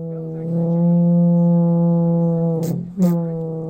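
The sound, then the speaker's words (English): An alphorn covered in national park badges, played by a learner after a Sierra Alp horn players' rehearsal at Davis Creek Regional Park, holds a long, low, steady note with a rich buzzing tone, breaks off briefly with a couple of breathy puffs, then resumes the same deep pitch. No one speaks. “After the rehearsal, Lindsay offers to let me play his horn covered in national park badges.”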